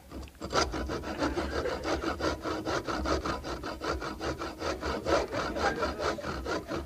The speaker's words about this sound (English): And then you got the lovely sound effect of them soaring through some wood, which is supposed to be them trying to carve this chicken.